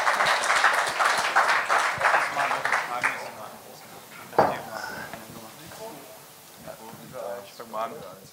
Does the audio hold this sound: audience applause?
yes